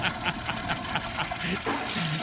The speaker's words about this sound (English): Toilet flush sound is funny.